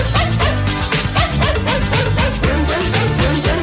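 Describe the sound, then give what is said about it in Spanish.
An upbeat Italo Disco dance track with a steady beat and synths, with short dog barks woven into the music as a rhythmic sampled element. “¿Un ladrido por segundo, dos ladridos por segundo, cómo va?”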